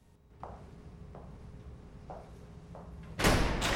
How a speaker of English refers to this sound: The door is closed behind her.